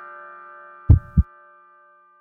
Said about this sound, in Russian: В тишине слышны стуки моего сердца.